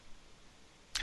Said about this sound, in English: The whip sound.